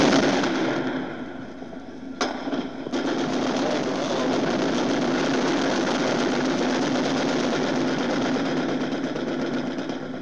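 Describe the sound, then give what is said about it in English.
Dense, rattling gunfire crackles almost without pause in the streets of Detroit in the evening, a steady rapid barrage with a couple of sharper, louder cracks early on, echoing. “And that's the sound you're hearing all over Detroit this evening.”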